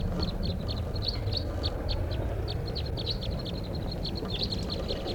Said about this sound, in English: Recording at 5:05 p.m. and there's a flock of wild crossbills here, about 8 birds up in the top of a tall lodgepole right above camp.